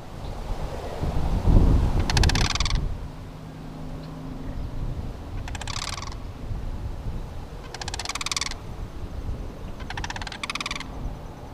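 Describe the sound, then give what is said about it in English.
A pair of sandhill cranes, recorded near Bath, gives four loud, rolling, rattling bugle calls spaced a couple of seconds apart, overlapping at times, over a low outdoor rumble and light wind. “Current State's Kevin Lavery picked up the sounds of a pair of the birds last week near Bath”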